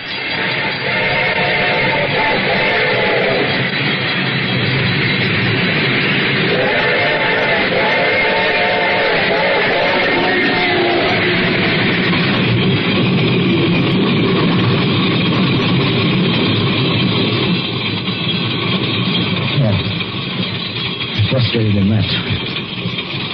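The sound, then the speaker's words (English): A train approaches and passes on a hot, dry afternoon, rumbling loudly and steadily, its bell ringing and its horn sounding in two long blasts, with a dense mechanical roar and clatter continuing throughout. “The train was coming closer. I could hear its bell ringing and the cry of its whistle.”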